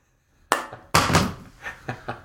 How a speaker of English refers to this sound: Good thing it didn't break. Dude, I would have laughed so hard if your iPhone just shattered.